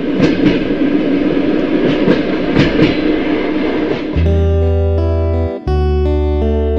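A train carriage rumbles loudly along the rails with recurring clacks, then a steady, droning tone takes over for the last few seconds, briefly cutting out before resuming.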